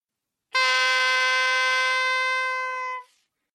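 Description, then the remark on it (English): A single long blast on a horn blown as a signal, a bright, buzzy tone held at one steady pitch for about two and a half seconds before cutting off, with no voices. “Back on the riverbank, the sheriff said, "I can hear Sir Guy's horn. I will blow mine to tell him where we are."”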